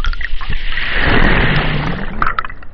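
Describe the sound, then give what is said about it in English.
A very small wave washes into the roots of a sable palm at the ocean's edge, recorded underwater with a hydrophone on an island off the coast of Georgia, washing sand grains away: a broad rushing swell that rises and fades over a few seconds, with bubbly crackles and low thumps throughout and brief clicking bursts near the end. “So this is a very small wave reaching into the roots of a sable palm, and the hydrophone reveals quite a lot of energy punching into the roots and washing sand grains away.”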